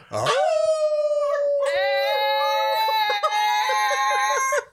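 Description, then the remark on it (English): A group of people imitate a wolf pack in one big group howl: one rising howl starts alone, then several more join in long, overlapping sustained howls, loud, until an abrupt stop. “let's see if we can go out on one big group howl like a wolf pack.”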